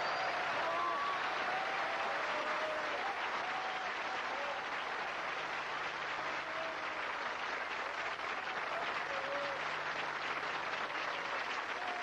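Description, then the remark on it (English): Steady, dense applause from a large studio audience at the Jack Jones Show fills the whole twelve seconds, a continuous wash of clapping with occasional faint whistles and cheers rising above it. “And Jack's in the audience. What a crowd.”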